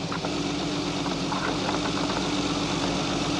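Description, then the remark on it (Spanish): A car engine idles steadily as the car stops at the gate of a camp, a constant low rumble with a faint mechanical rattle and no change in pace or volume, with no voices. “El automóvil se detiene en la puerta.”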